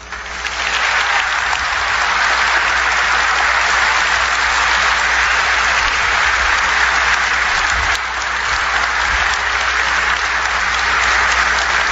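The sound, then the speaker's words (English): A crowd claps steadily and loudly for about twelve seconds as a 93-year-old World War II Army Air Corps veteran is introduced, a dense, sustained wash of hand claps with no pauses or voices standing out. “I might suggest that you hold your applause, or at least standing up each time until the end.”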